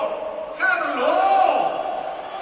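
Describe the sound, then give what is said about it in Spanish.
At the Bernabéu stadium, a crowd's steady roar suddenly swells into loud, sustained whistling and jeering aimed at coach Ancelotti as he is announced, holding for a couple of seconds before easing back slightly. “Uy, buena pitada.”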